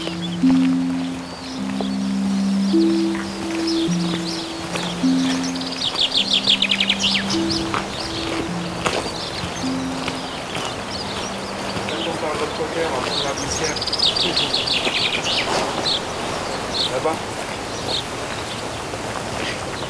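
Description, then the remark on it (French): Birds chirp and trill repeatedly over a steady, breathy rush of wind in open air on the Larzac plateau in France, at 780 metres altitude, with a low droning tone underneath during the first half. “Des oiseaux, du vent.”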